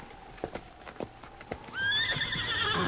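A horse waiting behind a rock in the hills clops its hooves unevenly, a few scattered steps, then lets out a loud, drawn-out whinny that rises and wavers to the end.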